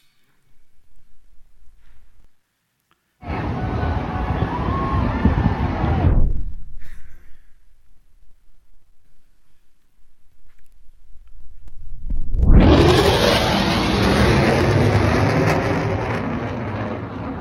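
A jet breaks the sound barrier, roaring by loudly in two bursts: a sudden rush of engine noise that cuts off, then after a quieter pause a second swelling roar that builds and holds.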